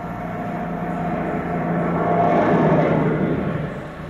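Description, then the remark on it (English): A heavy lorry rumbles past, its low engine drone and road noise swelling to a peak midway, then gradually fading. No one speaks. “When the lorry has gone, they all look round and listen again.”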